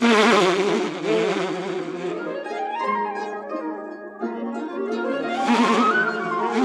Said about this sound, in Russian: По-моему, пчелы что-то подозревают. Что подозревают? Не знаю. Но только они ведут себя подозрительно.